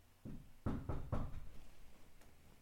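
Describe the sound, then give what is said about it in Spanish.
Four knocks on a door: one, then a quick run of three, muffled and low-pitched, with a faint room hiss and no talking. “Un momento que están llamando a la puerta, chavales.”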